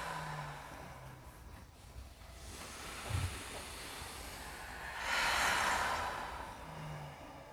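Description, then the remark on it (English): Slow, rhythmic breathing in and out, soft airy swells rising and falling, with one fuller, louder exhale near the end. Fairly quiet, with no talking. “In and in and you can see if you can find this rhythm, if you can make this rhythm work for you. Of breathing in and letting go.”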